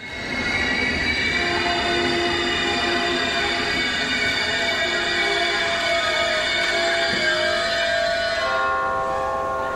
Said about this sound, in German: Meine Damen und Herren, auf Gleis 3 ist eingefahren.